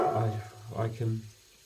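A human voice imitates an angry dog named Brutus, giving a low, rough growl followed by two short barking bursts, fairly loud, with no other sounds around it.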